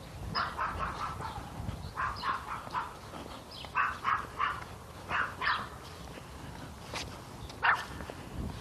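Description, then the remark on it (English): A dog barks repeatedly outdoors in short, uneven bursts, sometimes in quick pairs, over a steady background hiss. No one speaks. “Yep, yep, yep, dog.”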